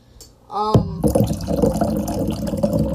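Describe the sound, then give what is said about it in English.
Still water from a white Liquid Death Mountain Water can pours in a loud, continuous gush with a gurgling, splashing texture, following a brief tonal rising sound as the liquid starts to flow. “From its branding to the sound when you pour it.”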